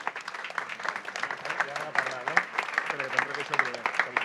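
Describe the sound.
A crowd applauds steadily at an awards ceremony, honoring an athlete who won Catalan F45 championship golds in the 100 and 200 metres, with dense, continuous clapping for several seconds, mixed with scattered voices and cheers rising over the noise.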